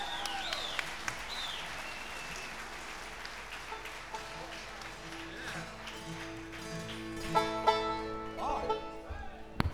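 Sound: audience applause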